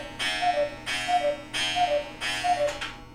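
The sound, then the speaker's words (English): A clock strikes the hour at 11 o'clock with four evenly spaced, ringing chimes, each bright strike fading slightly before the next. Fairly loud, with no voices. “Let the clock do this thing here.”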